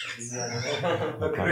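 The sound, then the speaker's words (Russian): Parakeets squawk and chatter outside the window in Vrindavan, a busy run of shrill, overlapping calls, continuing steadily through the brief moment. “Это попугайчики за окном.”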